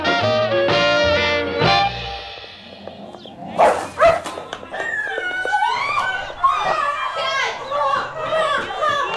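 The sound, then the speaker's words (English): A dog named Bonky barks in a few sharp bursts after biting a boy, amid a noisy scene of children shouting and crying, with excited voices talking over and around the barking. “So, Bonky bit Garp, huh? Well, at least the dog's got good taste.”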